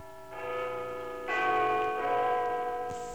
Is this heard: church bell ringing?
yes